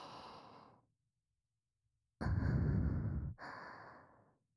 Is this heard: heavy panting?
yes